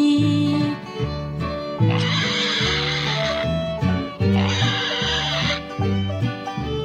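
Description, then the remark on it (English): A pig oinks twice in short bursts over a bouncy, steady musical backing of a song about animals that plays throughout. “Fee deedle dee deedle dee dee dee, the pig is talking to me.”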